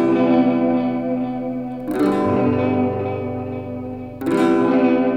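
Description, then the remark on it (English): Sustained chords on a hollow-body electric guitar (a K guitar), miked at the strings and the amp, ring out with a wobbling, watery stereo delay set to different rates on left and right. Each new strum, at about two and four seconds, smears into repeating echoes that wash over one another, with no voices. “Two different delay rates on the right side and the left side to sort of create this disorienting, watery, waves hitting each other effect.”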